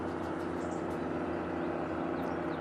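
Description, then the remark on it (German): A steady, droning engine hum from a rescue helicopter overhead, holding a constant low tone with no breaks and no voices, fairly loud throughout. “Auch ein Flugzeug. Hubschrauber. Rettungshubschrauber.”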